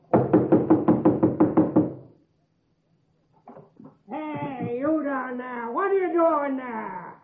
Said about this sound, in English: Knocking and banging, banging and knocking. Stop making too much noise.